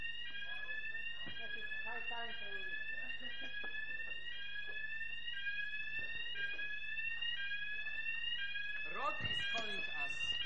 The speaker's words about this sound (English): Security alert.